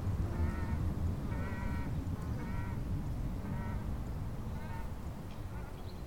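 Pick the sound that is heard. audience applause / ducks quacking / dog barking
ducks quacking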